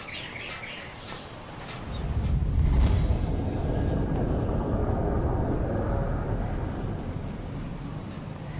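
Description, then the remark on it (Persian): A train rolls along the rails with a steady, heavy low rumble that swells after the first couple of seconds and keeps going, with a few faint high chirps early on. “فکر کردی میذاشتم این دوربینو با دستات بندازی زیر چرخای قطار؟”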